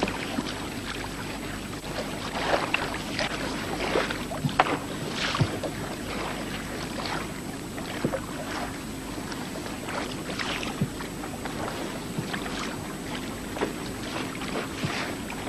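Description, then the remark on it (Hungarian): A passenger boat heading to Tihany moves steadily across the water, its low engine rumble blending with continuous splashing and hissing wash, with some wind noise over it; no one speaks. “Hova megy ez a hajó? Tihanyba.”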